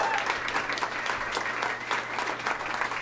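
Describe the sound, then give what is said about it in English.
Steady, dense applause from an audience welcoming a guest, a continuous crackle of many hands clapping at an even loudness throughout, with no voices standing out. “Let's hear it for him.”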